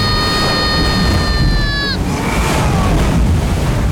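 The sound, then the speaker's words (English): A heavy, continuous rush of surging ocean water roars throughout as a giant wave strikes off the starboard side of a ship in a storm, while a steady, high whistle-like tone sounds over it for the first two seconds before cutting off. “Giant wave off the starboard side.”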